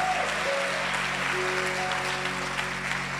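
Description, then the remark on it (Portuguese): A church audience of women claps steadily in applause to the Lord, a dense, continuous wash of applause filling the whole clip with a low sustained hum beneath, no speech over it. “Pode aplaudir o Senhor.”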